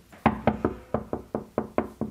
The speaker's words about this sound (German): Ich klopfe jetzt mal mit meinen Knöcheln. Es hört sich an, als wäre da drunter irgendwie ganz viel.